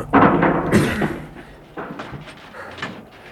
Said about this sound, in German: Gehen wir hinein? Ja. Aber wir treten die Tür ein. Sonst wäre womöglich eine Kugel das Erste, was uns erwartet.